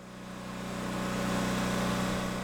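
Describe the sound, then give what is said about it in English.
A generator pumps water out of Don Habiger's flooded house at the end of View Drive after a glacial outburst flood. It runs in a steady, loud mechanical drone with a low, buzzing hum and a fast pulsing rhythm, swelling slightly and holding even throughout, with no voices. “A loud generator is pumping water from Don Habiger's house at the end of View Drive.”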